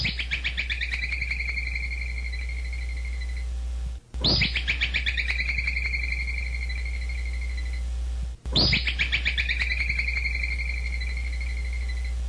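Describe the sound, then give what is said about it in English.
A woodchuck's shrill alarm whistle sounds three times, about four seconds apart. Each call bursts out sharply, then trails into a rapid, bird-like chittering. It is loud over a steady low hum. “I have a little audio of a woodchuck whistle.”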